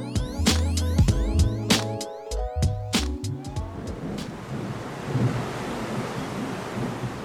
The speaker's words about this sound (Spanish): qué mala pata para un día que salimos de la biblioteca, va y se pone a llover.